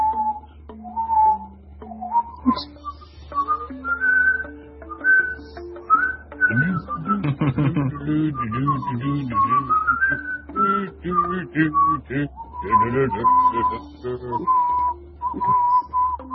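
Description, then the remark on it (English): Someone whistles a wandering melody of clear, sustained tones and short trills, fairly loud, with a low hum underneath and some lower voiced sounds joining in the middle. “Does whistling count as issues?”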